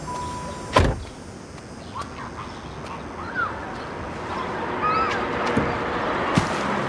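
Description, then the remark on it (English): A convertible's door opens with a solid clunk near the start, followed by soft shuffling movement as a man climbs out at the curb in a residential neighborhood, with quiet outdoor ambience and faint chirps in the background. “Pulls up to the curb and climbs out of the car.”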